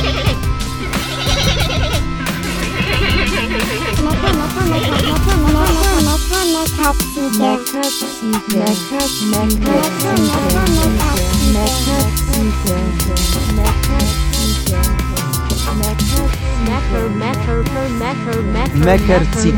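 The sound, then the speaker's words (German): Goats bleat over and over, their wavering, nasal cries overlapping in a loud, dense, continuous wash of sound that barely lets up for the whole stretch. “Gut für die Ziegen, unverbäckert. Haben weiter sie gemeckert.”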